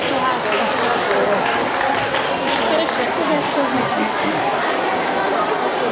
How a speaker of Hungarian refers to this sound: Merre vannak? Tapsoljuk meg a csillagocskákat!